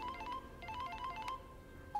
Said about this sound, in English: In his kitchen, … answers his phone.